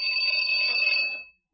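A doorbell at the door of a hideout rings once, a bright, high-pitched electric tone held steadily for over a second before cutting off and fading, with no voices.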